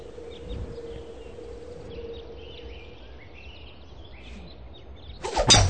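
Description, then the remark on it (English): Outdoor ambience from the video game Tiger Woods PGA Tour 06, with chirping birds and a low steady hum, then a sudden loud, sharp crack of a golf club striking the ball right at the end. No one speaks. “That's right when he winds up and he cracks the ball and it just goes on for about a million miles.”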